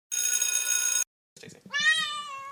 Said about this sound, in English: Oh, there's a kitty cat, her too.